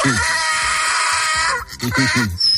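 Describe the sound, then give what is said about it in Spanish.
A donkey brays loudly in harsh, rasping bursts, its voice see-sawing between wheezy high notes and lower honks in a rapid rhythm, with a short pause before a final run. “Lo normal en casa es tener un perro, un canario o un hámster, pero a ti, pulpo, se te hubiera ocurrido tener un burrito.”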